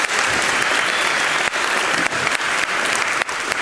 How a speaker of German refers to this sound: Einmal dafür einen riesen Applaus für die Künstlerinnen und Künstler.